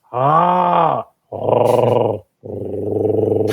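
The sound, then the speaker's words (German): A human voice imitates the deep, rough croak of ravens with three loud, drawn-out calls of about a second each, separated by short pauses, and no other talking. “Machen so Gänse, machen so tiefe, so, so tiefe Geräusche.”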